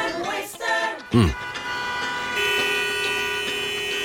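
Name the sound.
car horns honking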